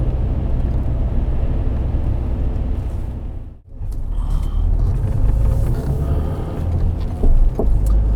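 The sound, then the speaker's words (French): A family car with one headlight out drives along with a steady, heavy low-end rumble of engine and road noise, briefly dipping to near silence mid-way before the droning resumes. “Avec notre voiture familiale, ça va passer.”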